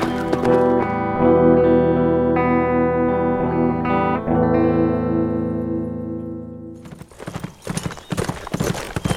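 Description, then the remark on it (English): A sustained, distorted musical chord rings and fades, then a horse's hooves break into a quick clip-clop rhythm as its rider sets off down to the river, for the last couple of seconds. “He rode down to the river and put the horse into the water.”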